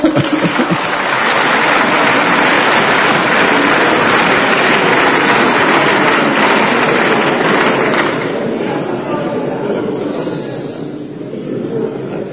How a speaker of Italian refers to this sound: Non ripeto il valore costituzionale delle autonomie speciali, perché sennò arrivano di nuovo applausi, ma l'ho già detto e l'avete ascoltato.